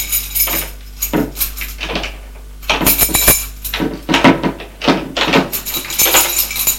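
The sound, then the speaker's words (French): A door opens with a series of rattling clunks and latch clicks, irregular knocks and scrapes spread over several seconds, with no one speaking. “La porte qui s'est ouverte.”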